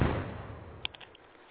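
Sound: gunshots and explosions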